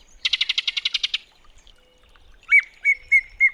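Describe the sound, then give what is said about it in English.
Yellow-breasted chat song, clear: a quick rattling series of about ten harsh notes, a short pause, then four separate whistled calls spaced evenly apart, with no talking. “When the northern summer declines, the yellow-breasted chat will make its way south to winter in Central America, until the springtime draws it north again.”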